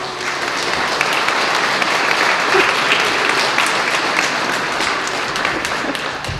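An audience bursts into sustained applause, many hands clapping at once in a dense, steady roar that fills the room for several seconds without any talking.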